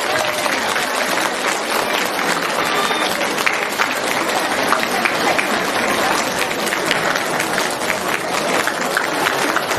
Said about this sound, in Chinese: 让我们用最热烈的掌声恭喜我们尊敬的卢军宏台长。